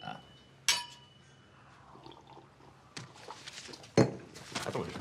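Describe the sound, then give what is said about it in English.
Wine glasses clink together in a toast: one bright, ringing chime, then a couple more sharp clinks a few seconds later over a quiet background with faint rustling. “They clink wine glasses with Alberto.”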